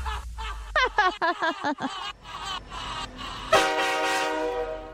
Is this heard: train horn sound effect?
yes